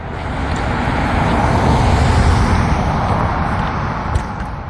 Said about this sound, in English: The sigh of tires on the pavement.